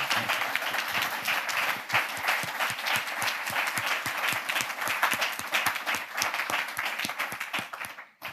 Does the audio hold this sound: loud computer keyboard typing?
no